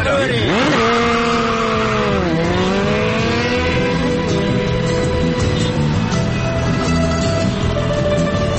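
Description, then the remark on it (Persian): A motorcycle carrying a rider and a passenger on the back revs loudly, its pitch dipping and climbing twice before settling into a steady roar as the bike accelerates away. “آره خب پس بپر ترک موتور تو، من جلی ببرم تا اوستام شوکه نشده.”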